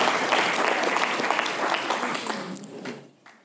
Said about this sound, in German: Das war jetzt kurz. Ihr könntet länger klatschen, weil das Frühstück schmeckt dann als Geld dazu.